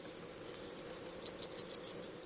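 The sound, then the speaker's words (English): An eastern yellow wagtail gives a thin, high-pitched call as a rapid, rolling trill of wavering notes, continuous for about two seconds, fairly loud over a faint low background hum. “And the eastern yellow wagtail.”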